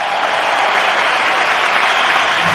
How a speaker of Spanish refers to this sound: Pues con esa larga ovación, Rafa Nadal en el centro de la pista